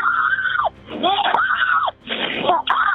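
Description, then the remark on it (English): A woman screams in three loud, drawn-out bursts with brief gaps between them, the sound thin and muffled as if heard over a telephone line, during a 911 call to state police from a neighborhood not far from Gilgo Beach. “She screams.”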